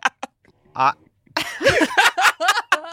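A female dog named Pundit reverse sneezing in an office: a few sharp snorts at first, then a loud run of rapid, honking inhaled snorts with a rough, nasal, pulsing rhythm.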